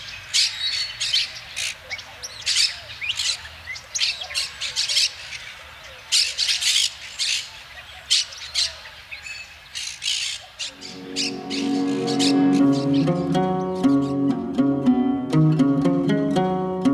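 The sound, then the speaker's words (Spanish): A bird of an introduced species, native to Bolivia, Brazil and Argentina and introduced in urban areas of Mexico, gives a rapid, repeated series of harsh, raspy squawks, loud, continuing throughout; partway through, steady music fades in underneath the calls. “Es una especie originaria de Bolivia, Brasil y Argentina, y sus poblaciones son introducidas en casi todas las áreas urbanas de México.”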